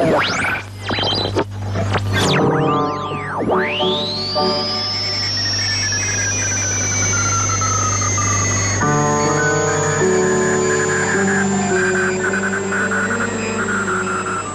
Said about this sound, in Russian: Слышите не кратковолновый шум и не помехи. Это звучит композиция немецких радиохудожников «Радио на радио», посвященная искусству радио.